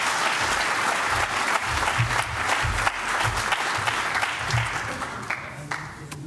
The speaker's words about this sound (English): But quick round of applause just for the missing.